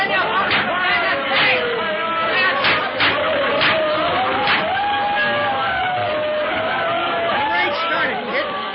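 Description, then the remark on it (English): A dense crowd on a dock watching a fight chatters and murmurs continuously, many overlapping voices forming a steady babble with occasional excited shouts rising above it, loud throughout. “It's tough to get through this crowd watching the fight.”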